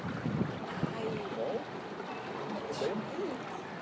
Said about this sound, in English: Notice the strong current of the water.